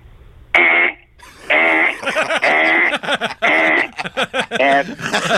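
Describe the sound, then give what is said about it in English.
A man's voice mimics his alarm clock that went off at 4:30 in the morning, with repeated loud, nasal, high-pitched bursts, each held briefly, while laughter and chuckling from others break in between and over the imitation. “I had an alarm clock that would go off at 4:30 in the morning”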